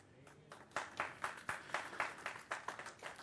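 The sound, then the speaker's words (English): An audience at a church breaks into applause for the speaker, the claps building quickly into a steady, fairly even rhythm, moderately quiet, with no one speaking over it. “Thank you, but you don't need to clap for me.”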